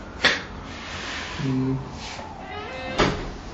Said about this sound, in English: Can somebody get that door, please?